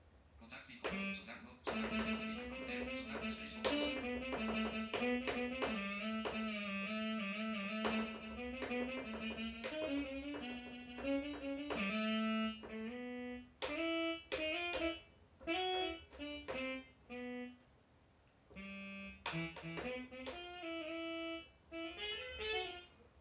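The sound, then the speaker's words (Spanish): A synthesized tenor saxophone sample from an X5D or N364 keyboard plays a legato, slightly wavering melody over a low sustained tone, with clipped stabs and short pauses toward the end; the tone is reedy but artificial, moderately loud. “Este tipo usa el tenor sax siempre del mismo teclado, del X5D o del N364.”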